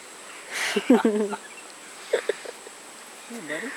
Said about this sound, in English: It's like the cicadas. Yeah. See, there's a bunch over there. You'll never see them. A lot of insects.